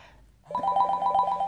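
A phone ringtone for an incoming call from the father starts after a brief silence, a bright electronic melody of quick repeating notes that plays steadily and clearly, with no voices.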